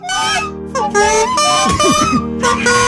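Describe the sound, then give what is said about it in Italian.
A small toy trumpet blares loud, buzzy, sustained notes in a few blasts with short breaks between them, while a voice briefly sounds underneath partway through. “Sta scogliando la trombetta.”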